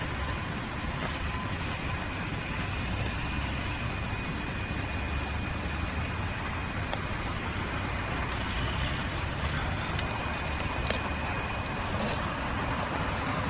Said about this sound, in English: It's funny that at a place like this, the sound of the traffic probably never stops. It's kind of a whoosh, kind of a squeal. Sometimes it's almost a moan. But it goes on and on.